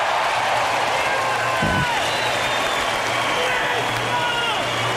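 A packed hall at the 2016 Olympic Games in Rio roars with steady cheering and applause, a dense wall of crowd noise, with a sharp triumphant scream from a gymnast who has just won gold cutting through near the middle.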